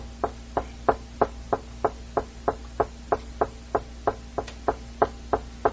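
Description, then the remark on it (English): A steady run of sharp knocks on a hard surface, about three per second, evenly paced, repeating for several seconds over a faint low hum with no one speaking. “Just constant. I knock.”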